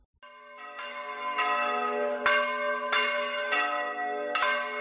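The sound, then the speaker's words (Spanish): Church bells peal in an irregular sequence of strikes, each clang layering over the lingering hum of the last. The ringing is steady, with no voices. “Estas campanas siempre me recuerdan el tercer domingo de Cuaresma de otros años, cuando una era más joven.”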